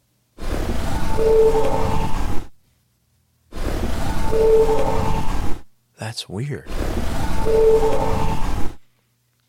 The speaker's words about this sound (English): Another sound I pulled out of that, and I just called this a submarine bleep. You know, it sounds like in a movie when you have the submarine, they have the sonar. Yeah. Sound. Yeah. The sonar noises.